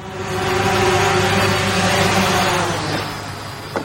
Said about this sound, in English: Here's a little promotional video for Amazon Prime Air, sound of a drone arriving at a doorstep, dropping a package, heading back to the warehouse.